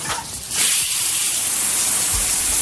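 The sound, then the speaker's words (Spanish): Shower water runs in a steady hiss, starting a little quieter before swelling into a full continuous spray that holds evenly to the end, with no voices. “¿Qué es lo primero que haces cuando te levantas? Por ejemplo, ¿darte una ducha?”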